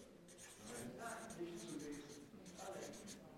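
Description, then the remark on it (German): A pen squeaks and scratches across a flipchart in several short strokes as church names are written, moderately loud, with faint room noise and no clear talking. “der Stift ist zu dünn. Jetzt suchen wir mal einen anderen Stift.”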